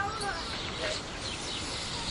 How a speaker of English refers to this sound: Okay. Enough of those birds.